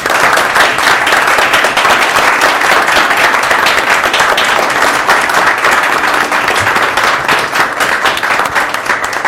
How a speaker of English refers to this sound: Before we conclude with some final comments, let's give the man of the hour a round of applause.